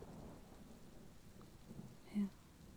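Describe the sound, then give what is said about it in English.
Steady, soft rainfall patters continuously with a low rumbling wash underneath, and a brief muffled tone rises near the end before the quiet downpour resumes. “So, I think you should just lay here and listen to the rain.”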